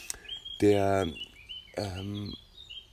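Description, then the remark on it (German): A common redstart's thin, high song notes sound faintly and repeatedly in a meadow, while a human voice makes two short sung or hummed syllables over them. “Und es ist der Gartenrotschwanz, der diese erste Teil, dieses di da da da da da, ist sehr, sehr weit zu hören.”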